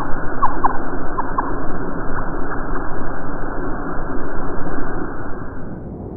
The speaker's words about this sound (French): Les chants de baleines sous l'eau?